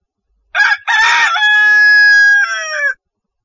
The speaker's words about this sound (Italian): E subito, mentre parlava ancora, il gallo cantò.